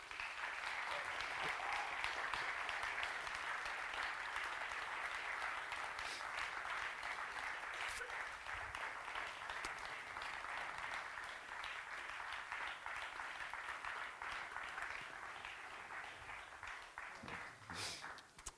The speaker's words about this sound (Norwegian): Så la oss klappe for første og siste gang, i hvert fall på en liten stund, våre debattanter fram!